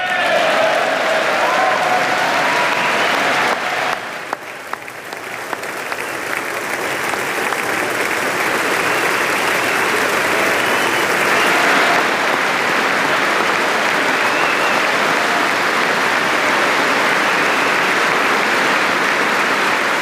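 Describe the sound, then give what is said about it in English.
A large audience applauds Apollo 11 astronaut Buzz Aldrin at a celebration of 50 years since the moon landing, steadily and loudly for the full twenty seconds, a dense wash of clapping with a brief dip early on before it swells again and holds, no voices rising above it. “Sustained applause for Buzz Aldrin, who's there in a Stars and Stripes tie.”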